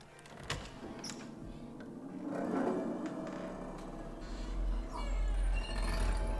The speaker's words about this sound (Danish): Hvad var det? Det lød som om nogen trådte en kat på halen.